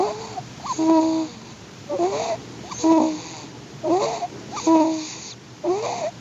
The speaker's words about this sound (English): Well, the weather outside might be frightful, but here's a little sound to warm you. The sound of a new baby snoring. Jane's daughter is a nanny for this baby, who is as cute as he sounds.